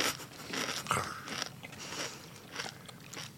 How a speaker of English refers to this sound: Oh, that has a nice crunch. Much nicer. We can tell just by the look. Oh, yeah. Yeah, that's really nice. Got a really crispy bit here. Yeah, crunchy, a little bit spicy, but not overpowering, to be honest. It's pretty subtle.